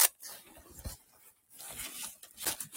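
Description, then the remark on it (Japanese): Someone rummages through a bag while searching for a credit card case, producing irregular bursts of crinkly rustling and scraping over a few seconds, with brief pauses between handfuls and no voices. “どこだ？あれ？会社用のカードで買わないと。ガサガサゴソゴソガサガサゴソゴソ。”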